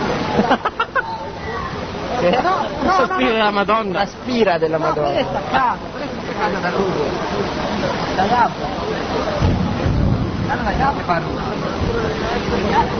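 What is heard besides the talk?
heavy rain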